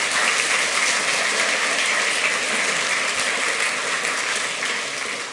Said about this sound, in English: Give him a huge round of applause.